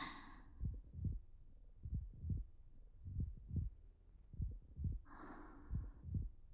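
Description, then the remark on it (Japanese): A muffled heartbeat, felt by someone pressed against the person, thumps in steady lub-dub pairs about once a second, with soft breaths drifting in at the start and near the end. “でも、もしこうやって密着して鼓動を伝え合うのがあの人とだったら、少し緊張するかもしれないけど、きっとすごく幸せかも。”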